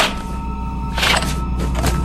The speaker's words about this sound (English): That girl came back. That girl, I mean, she keeps knocking on the door.